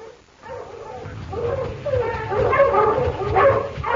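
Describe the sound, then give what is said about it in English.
Several dogs bark and bay excitedly during a hunt in a rapid, overlapping chorus of yelps and howls, growing louder and more frantic toward the end. “The dogs, Pa!”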